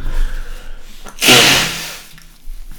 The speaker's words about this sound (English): Excuse me while I blow my nose because I have a sinus problem. Hang on.